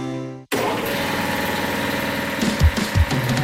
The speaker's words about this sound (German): was schnurrt da so wie ein Kätzli? Ah, das ist schon so ein neuer Kompressor vom Renner.